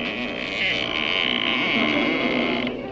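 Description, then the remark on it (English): A door in a house creaks in one long, drawn-out groan lasting about three seconds, loud and steady with a raspy, slightly wavering pitch and no voices over it. “Oh, that was just the door.”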